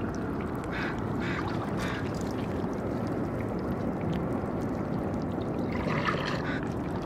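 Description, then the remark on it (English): Water trickles steadily against barnacles, the small wet clicks and sucking gurgles coming from the water meeting the barnacles, over a dense, continuous low rumble of the roaring city that stays loud for the whole stretch. No one speaks. “It trickles and clicks and sucks and... The city is roaring around these tiny sounds, but it's not masking them.”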